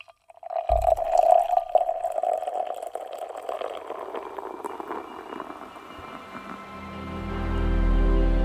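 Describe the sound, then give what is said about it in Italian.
A short click as a beer bottle is opened, then a steady pour of light golden beer into a glass, the gurgling liquid rising in pitch and fizzing as the glass fills. “Ora che la conosciamo un po' di più, è venuto il momento di stapparla e versarla nel bicchiere.”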